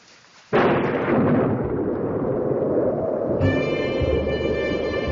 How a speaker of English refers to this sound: It's only the wind and the thunder.